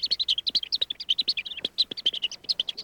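A rapid, continuous chorus of high-pitched peeping from young songbird chicks, hungry yellow warbler nestlings calling insistently with no pauses, and no talking.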